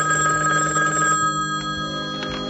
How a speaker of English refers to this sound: Can you get it? What? It's the phone.